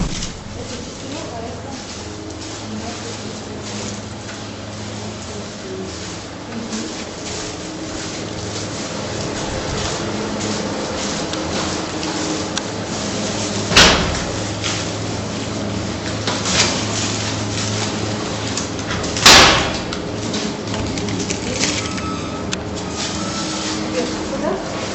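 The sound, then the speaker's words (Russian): A door in an apartment shuts with a sharp thud, followed a few seconds later by a second loud knock or latch sound, over a steady hum with people talking in the background. “Сейчас я закрою дверь тут.”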